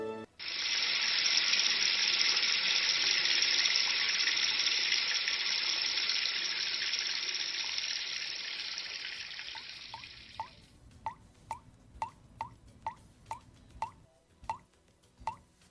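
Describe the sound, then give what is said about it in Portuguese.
A tap runs in a loud, steady stream for about ten seconds, then shuts off, leaving a series of evenly spaced drips plinking one after another. “A má utilização da água gera, em média, um gasto de 70% além do necessário.”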